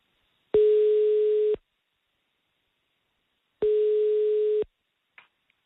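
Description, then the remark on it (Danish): A telephone ringback tone as a call is placed from Radio 24/7 to the Social- og Sundhedsforvaltningen: two steady one-second electronic tones separated by about three seconds of silence, heard clearly over the line, followed by a faint click as the call connects. “Jeg ringer fra Radio 24/7.”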